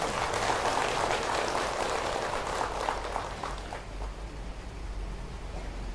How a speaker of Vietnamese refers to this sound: Mong quý vị hãy dành cho một tràng vỗ tay thật lớn.